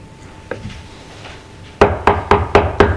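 A single faint knock, then after a pause five loud, evenly spaced raps on a door in quick succession, sharp, with no voices.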